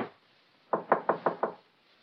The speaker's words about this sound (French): Mais frappons à sa porte.